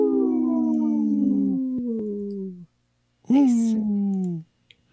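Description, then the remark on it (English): Two long, mournful wolf howls, each sliding slowly downward in pitch. The first lasts over two seconds, and after a short pause a second, slightly higher howl follows and trails off. “protecting wolves for future generations. Howl! Howl! Howl!”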